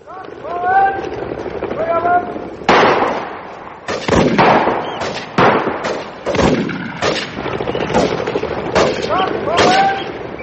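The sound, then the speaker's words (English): Shotgun blasts ring out at a pheasant shoot that bags 500 pheasants, 30 wild ducks, hares and partridges, a dozen or so sharp, loud cracks fired in irregular bursts, with voices talking and calling before and between the shots. “I never saw such marvellous shooting, sir.”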